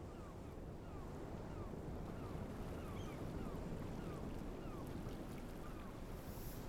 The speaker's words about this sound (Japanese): ほら、聞こえる？波の音。